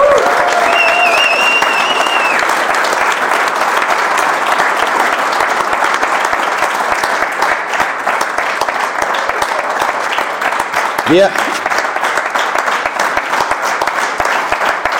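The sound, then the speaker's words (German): Sustained, dense applause from an audience at a CDU Königswinter event, honouring its chairman, fills the whole stretch at a steady loud level, with a few brief whistles or cheers rising above the clapping early on and near the end. “Da gab es viel Applaus, ne, an der Stelle.”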